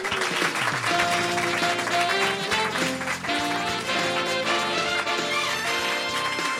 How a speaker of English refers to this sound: Okay, coming off the opening titles, and here's what's-his-face. Applaud now, idiots.